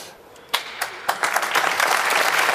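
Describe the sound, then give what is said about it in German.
An audience claps in praise of the football club SC Freiburg: a few sharp, separate claps at first, then many hands join into a dense, steady round of applause that stays fairly loud to the end. “Da dürft ihr ruhig mal klatschen, so.”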